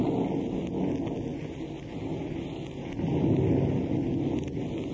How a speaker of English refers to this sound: As we open, we find Eddie Bracken at Dottie's house at Malibu. The night is rainy and accompanied by thunder and lightning.